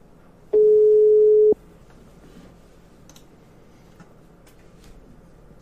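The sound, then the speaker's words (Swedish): A telephone ringback tone sounds while calling: one loud, steady mid-pitched beep lasting about a second, followed by a quiet line with faint clicks and low background hiss. “Men vi provar att ringa henne.”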